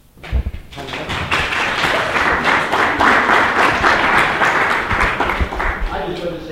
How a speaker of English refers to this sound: if there is any clapping or anything, of course, it should be for the organizers of this event, for what they went through last week.